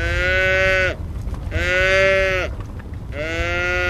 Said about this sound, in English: A line of hungry cattle chase him down. Some even leave their calves behind in the ice-crowned stubble.